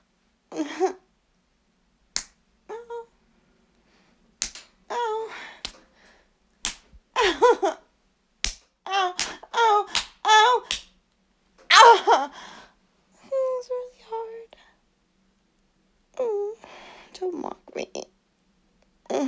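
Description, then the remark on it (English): Sharp slaps of a hand on skin land in an irregular series, about a dozen crisp smacks, with a voice gasping and crying out between and around them. “One more round of slapping.”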